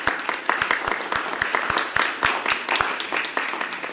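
A crowd breaks into a round of applause, many hands clapping in a dense, steady patter with a few sharper claps standing out, sustained at an even, moderate loudness throughout.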